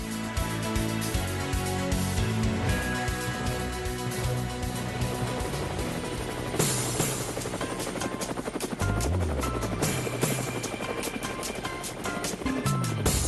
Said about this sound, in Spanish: Bueno, amigos de Cuba, aquí tengo mi nasobuco, aquí tengo mis guantes y me monto en el helicóptero con una confianza tremenda porque mi colega Isilda Arjona algo nos va a llevar o algo nos va a decir.